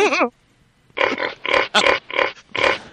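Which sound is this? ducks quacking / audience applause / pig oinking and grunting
pig oinking and grunting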